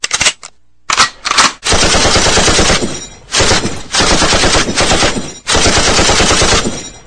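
A machine gun fires loudly: a few short stuttering bursts, then long sustained streams of rapid automatic fire broken by brief pauses, with no voices.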